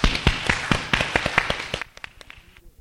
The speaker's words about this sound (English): But we would like to applause for the fathers here on this Father's Day.